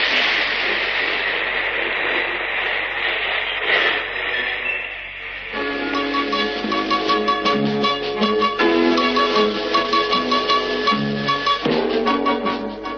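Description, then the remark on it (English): A train arrives with a steady, loud rumbling hiss for roughly five seconds before a bright musical passage with sustained notes takes over for the remainder. “Ah, here's the train now.”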